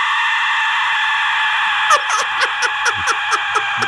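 An Aztec death whistle lets out a loud, harsh, breathy shriek like a human scream, held steady at first, then breaking into a rapid stuttering pulse of about eight bursts.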